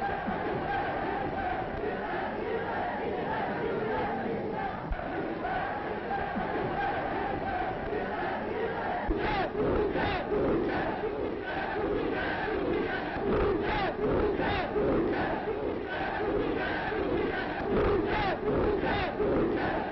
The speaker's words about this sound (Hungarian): A fogadás után az összegyűlt lelkes tömeg a német és az olasz követség elé vonult, ahol hosszasan tüntetett Magyarország barátai mellett.